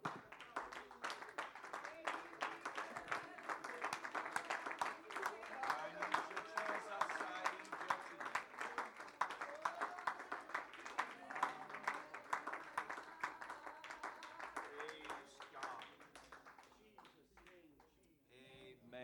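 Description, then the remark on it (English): An audience at a church service claps hands to the Lord in a dense, sustained wave of applause, with voices calling out over it, before the clapping thins and fades out toward the end. “Why don't we just clap our hands to him before we're seated.”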